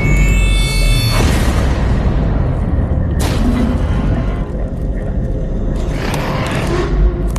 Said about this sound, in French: Soudain, à l'abord d'une clairière, un bruit déchire la nuit. Quelque chose vient de heurter le sol à quelques mètres des soldats qui se jettent à terre pensant à une explosion.